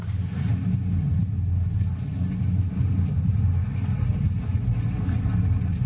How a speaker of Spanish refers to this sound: Esto que suena, juega miedo. ¿Qué es? Pues esto es un simulacro, es una avalancha. El sonido que produce realmente una avalancha de nieve